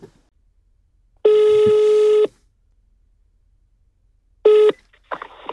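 A telephone call to Naturskyddsföreningen rings out: a steady, buzzy ring tone lasting about a second, a pause, then a brief second ring cut short as a voice picks up and starts talking.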